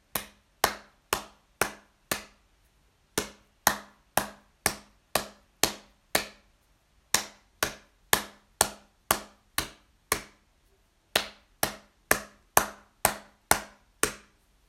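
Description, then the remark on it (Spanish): The rhythm of a music score, clapped or tapped on a table: crisp, sharp hits in steady patterns, grouped into four phrases separated by short pauses, with no voices present. “Primero, el ritmo percutido con palmas o encima de la mesa.”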